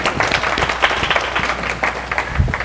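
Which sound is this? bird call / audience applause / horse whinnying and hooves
audience applause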